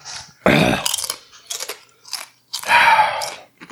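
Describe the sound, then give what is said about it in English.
Crunching of a crisp, very hot chip being eaten: a loud first bite, then a few shorter crunchy chews, and one more long, loud crunch near the end, with no talking. “I mean, another chip.”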